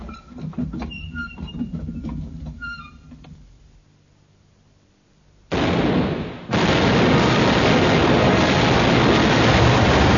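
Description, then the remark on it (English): Clattering commotion with sharp metallic knocks as gun crews bring up shot fades to a lull, then a loud ship's cannon blast erupts at an approaching vessel nearly in range and gives way to a steady, heavy roar that fills the rest. “Hey, bring up more shot, bearer men. Aye, gun captains! Aye, run up, train, and fire as you get the aim.”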